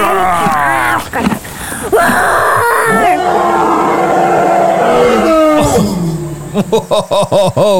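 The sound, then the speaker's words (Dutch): A loud, prolonged Tyrannosaurus rex roar, deep and rasping with shifting growls, breaking into a rapid series of pulsing grunts at the end. “Wow, hij brult echt heel hard, hè?”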